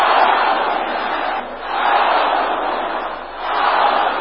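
A large crowd shouts together in loud, sustained waves, three broad bursts of massed voices separated by brief dips, like an audience roaring a chant in unison: power of the night, power of the waters, power of the forest.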